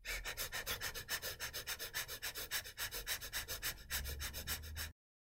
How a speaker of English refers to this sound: But let me just try it. So it's really short, shallow breathing, which is replicating what happens in the stress response.